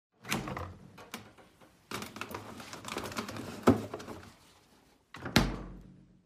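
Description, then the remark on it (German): A refrigerator door is opened with a soft seal pop, followed by rustling and clinking as cheese sausage and butter are taken out, then swung shut with a firm thud near the end. No one speaks. “Käsewurst und Butter aus dem Kühlschrank.”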